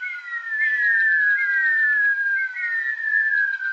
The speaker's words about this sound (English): As the Rhea eggs are about to hatch, the chicks, while still inside the egg, begin to make a curious whistle. Imagine 50 or more, all whistling at once.